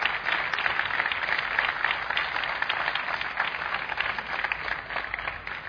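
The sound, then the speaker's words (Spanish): Sustained applause from a crowd at the Siamol shopping centre for its director and staff, a dense steady patter of many hands clapping for several seconds at an even, moderately loud level, with no voices standing out. “Me gustaría, de verdad, pedir un fuerte aplauso a Hugo, su director, y a todo el personal de este maravilloso centro.”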